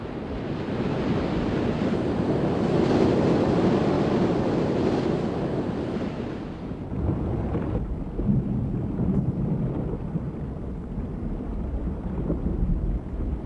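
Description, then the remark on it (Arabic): Loud, continuous roar of strong wind and churning sea waves as the weather at sea turns worse, with heavy buffeting noise that eases slightly after a few seconds but stays rough throughout; no voices. “اشتدت الرياح واضطرب البحر كثيرا”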